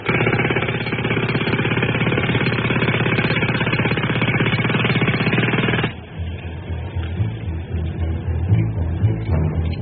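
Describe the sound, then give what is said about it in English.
A jackhammer pounds loudly and continuously for about six seconds, a dense rapid rattling, then cuts off, leaving quieter scattered clanks and rumbling noise. “Work on the jackhammer long enough, and you stand a good chance of ending up stone deaf.”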